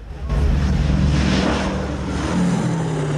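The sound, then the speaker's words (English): Loud, steady roar of B-17 bombers' propeller engines as the planes swoop in to land on the runway, a continuous droning rumble with a slight swell as they pass low, with no voices. “As the planes swoop into land, the army ambulances head for the runway.”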